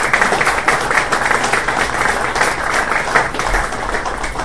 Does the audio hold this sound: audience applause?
yes